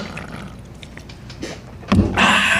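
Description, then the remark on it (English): A quiet rustle gives way to a sharp metallic crack as a can of Liquid Death water is opened, followed by a steady bright hiss of escaping air and liquid that runs to the end. “Let me fucking pop the top on this thing. Listen to this.”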